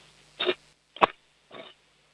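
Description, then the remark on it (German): A 7-year-old child from Vienna drums with a wooden cooking spoon on a cooking pot in the kitchen a few times, one crisp clang between two softer, scuffing hits, all fairly quiet with short gaps and no voices. “Jetzt müssen wir nur in der Küche einen Kochlöffel finden und dann einen Kochtopf und dann trommeln wir drauf los.”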